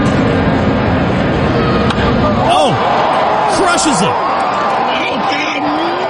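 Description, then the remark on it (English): A large crowd at the Rogers Centre roars steadily and loudly for several seconds during a Blue Jays player's first at-bat there since signing his contract, a dense wash of cheering and shouting, while an announcer's excited voice calls out over it. “I found this funny clip, too, of his first at-bats at the Rogers Center since signing that contract. Listen to the crowd here.”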